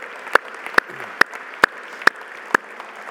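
An audience claps at a steady, unhurried beat: six loud, sharp claps stand out above a soft, continuous hiss of background noise, with no one speaking; a round of applause for people who gave a testimony.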